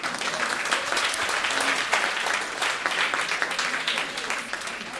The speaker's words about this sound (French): Qui ici est un souteneur, un abonné de CanadaLand? Bravo à vous! Et ils sont dans la salle, on va les applaudir.